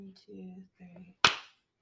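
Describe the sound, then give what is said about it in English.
A single sharp hand clap rings out after a few short bursts of people talking, loud and crisp with a brief fading tail. “Ready to clap?”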